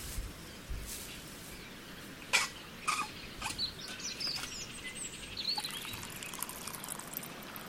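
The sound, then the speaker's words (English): Steady, soft rushing of flowing river water in the Tabriz region of Iran fills the whole stretch, with a few brief splashy clicks and faint high bird chirps scattered over it; no one speaks. “Now what I need is drinking a cup of Iranian tea beside this river and, of course, these red flowers.”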